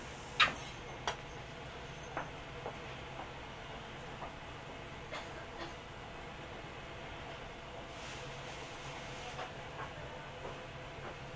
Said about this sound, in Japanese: 電車を前に出します。気をつけてください。前に出します。